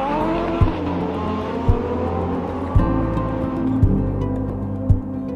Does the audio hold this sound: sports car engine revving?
yes